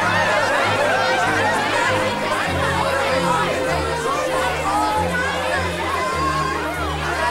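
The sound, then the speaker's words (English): A dense, excited crowd builds up and jostles around a woman, trying to get close to her, chattering all at once, overlapping voices forming a steady loud babble with occasional higher shouts rising above the din, bodies seeming to shuffle and press together. “Suddenly, the crowd builds up and jostles around”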